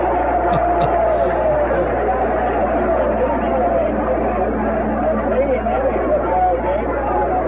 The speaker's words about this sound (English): And listen to the crowd.